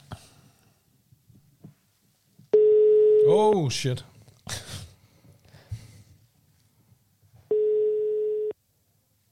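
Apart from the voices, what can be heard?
telephone call ringing tone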